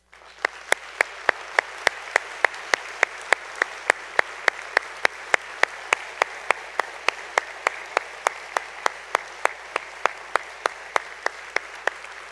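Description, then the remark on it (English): A church audience applauds standing military veterans in a steady, sustained round of clapping, dense and even throughout with sharp individual claps popping out above the crowd's wash of sound, no voices heard. “Can we just give you a round of applause and gratitude?”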